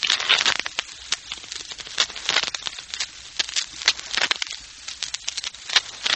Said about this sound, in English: The sound of shuffling cards can be dangerous music to certain ears, particularly to Mark Easy.